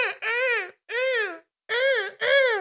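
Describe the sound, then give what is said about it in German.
Seagulls calling by the sea: four loud, harmonic-rich squawks, each about half a second with a rising-then-falling pitch, separated by short pauses, with no talking over them. “Das waren die Möwen.”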